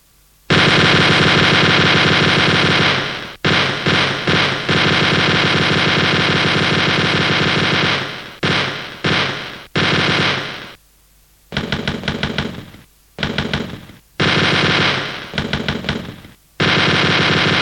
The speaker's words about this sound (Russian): Соло для пулемета с гитарой.